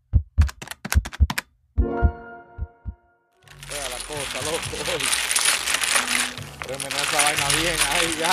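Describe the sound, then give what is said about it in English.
Dominoes played on a New York City stoop clack sharply against a hard surface, a quick uneven burst of hits with a brief metallic ring, then a loud, busy wash of many voices talking over one another takes over. “They're on their stoops. They're playing dominoes.”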